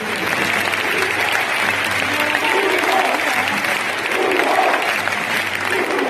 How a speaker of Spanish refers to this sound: Miribilla aplaudiendo a los 400 burgaleses desplazados hasta Bilbao para animar a su equipo. Qué bonito hermanamiento entre ambas aficiones.